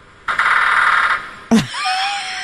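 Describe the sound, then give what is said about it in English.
A woodpecker drums on a metal gutter to make noise, a rapid metallic drumroll, loud, rattling for just under a second, followed by a sharp knock and faint high whistling tones. “It's pecking on the gutter to make noise to attract Winnie Woodpecker.”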